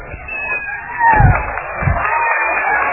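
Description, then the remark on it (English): A small group of people cheers and whoops together for a birthday, their overlapping voices forming a lively, fairly loud burst that swells around the middle and carries on steadily to the end. “Yeah, your personal cheering squad right there.”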